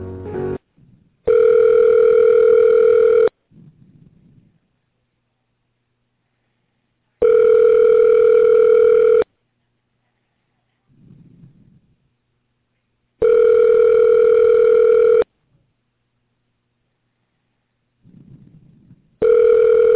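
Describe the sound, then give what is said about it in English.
A telephone ringback tone repeats over a phone line while a call is being transferred to another person's phone, steady two-second buzzing rings separated by about four seconds of near silence, four rings in all, with faint low murmurs in the gaps. “If you want, I can try and transfer you up to his phone.”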